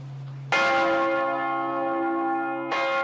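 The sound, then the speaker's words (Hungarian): Church bells of the renovated Matthias Church in Budapest, which received four new bells, ring out loudly, a deep sustained tone with rich shimmering overtones, struck again near the end as the first peal still hums. “Négy új harangot is kapott a felújított Mátyás templom.”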